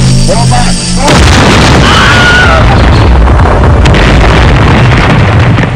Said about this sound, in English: troops, dead ahead! Look out! He's got a plasma cannon!